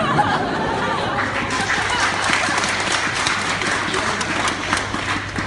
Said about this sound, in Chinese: 感谢大伙儿怜悯的掌声。哎， 怜悯的掌声。